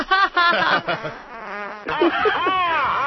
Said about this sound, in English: I don't actually fart. It's just a sound effect.